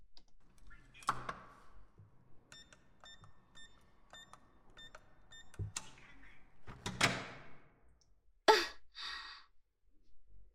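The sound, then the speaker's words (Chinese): A door is unlocked and opened: a series of short electronic keypad beeps, then a few mechanical clicks and clunks of the latch and handle, followed by a brief rattling swing. “你在这里靠窗的，我去开门啊。”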